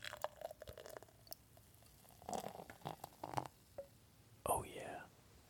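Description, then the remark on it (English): Beer is poured aggressively into a glass in a few uneven gushes, making cascades of foam, with foamy fizzing and soft splashes between quiet stretches, while someone whispers faintly in the background. “this beer that Lauren is aggressively pouring over there, making just cascades of foam”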